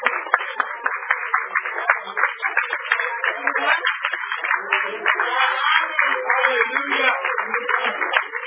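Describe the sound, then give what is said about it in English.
A standing audience gives God a hand clap during a service, clapping steadily for several seconds, a dense, continuous patter of many hands at even loudness, with voices calling out underneath the applause. “Can we give God a hand clap off?”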